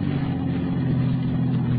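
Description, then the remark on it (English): A car engine rumbles with a steady, low drone as the car stops, fairly loud, holding an even level throughout with no voices. “Better stop the car here.”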